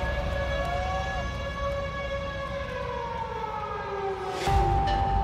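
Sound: civil defense siren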